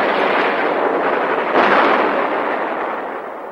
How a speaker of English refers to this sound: The Zero, slimmer than a Wildcat, with rounded wingtips and red circle wing markings, lands two bombs among the trees. On the next pass, the bombs hit the cluster of U.S. planes, sending up black clouds of smoke.